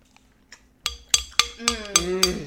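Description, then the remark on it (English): Glasses clink together in a toast, a quick run of about six bright, ringing taps, each chime lingering, preceded by a couple of faint light touches. “Oh, are you ready? Cheers.”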